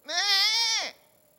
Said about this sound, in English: Now, remember how the baby lamb cried out for his mama? How did he do it?